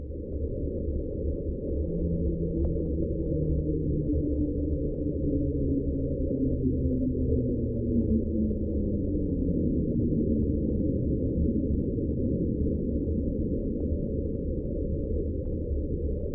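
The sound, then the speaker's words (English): A low, continuous underwater drone recorded on a hydrophone, the sound known as the slowdown, heard May 19th, 1997, a couple hundred miles north of Easter Island. Faint tonal bands slowly slide downward in pitch over a steady rumbling noise bed, lasting about sixteen seconds with no voices. “The slowdown was heard May 19th, 1997, a couple hundred miles north of Easter Island.”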